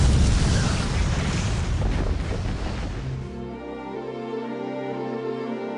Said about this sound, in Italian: Un'esplosione tremenda squassò la tranquillità dello spazio.